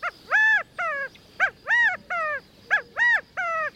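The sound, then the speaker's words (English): A male California quail perched on a stump gives its rallying call three times in a row to gather the covey, each a loud, ringing three-note phrase with the middle note longest and highest, heard alone with no talking. “With such a large extended family, it's not surprising when a male California quail hops up onto a stump to gather the covey together with this rallying call.”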